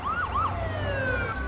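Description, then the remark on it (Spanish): Police car sirens wail in rising and falling sweeps, with several overlapping tones, over a low, steady rumble of traffic, as emergency patrol cars fill the Back Bay district of Boston. They are loud, and no one speaks. “En cuestión de minutos, el distrito de Back Bay, tranquilo por lo general, se vio repleto de patrullas de emergencia.”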